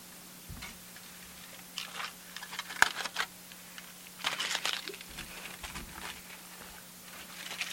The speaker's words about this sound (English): What the crunching sound is. The crunching is tinfoil, because that's what the fruit chews are wrapped up in.